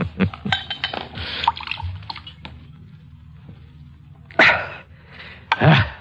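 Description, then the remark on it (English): A bottle of wine is opened and poured at a bar, with gurgling, splashing liquid in uneven bursts and a couple of sharper pours near the end, over a low steady hum. “Help me open the bottle.”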